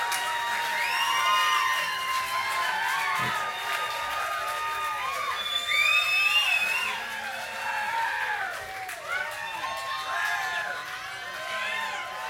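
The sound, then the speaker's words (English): An audience cheers and whoops continuously, many overlapping voices rising and falling in excited high-pitched shouts, with a steady wash of crowd noise and possible clapping underneath throughout. “Thank you for your kind applause.”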